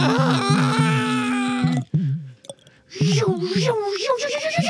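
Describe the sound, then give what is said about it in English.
A sci-fi tractor beam effect: a steady electronic hum with warbling, pulsing overtones, a brief drop-out with scattered clicks midway, then a wavering tone that swells and rises again. “That's a bright light. The sound of a tractor beam.”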